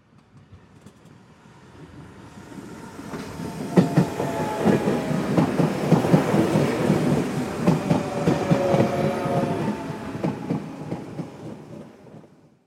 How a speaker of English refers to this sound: You hear the sound of a train.